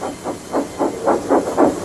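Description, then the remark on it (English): A steam locomotive chugs along steadily, its hissing chuffs coming in a quick, even rhythm of about seven puffs, moderately loud, with no voices. “James is off the line. The breakdown train, quickly.”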